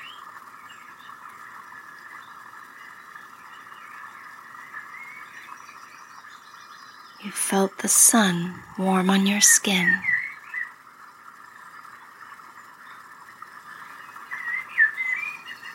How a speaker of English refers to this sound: You've listened to the birds singing.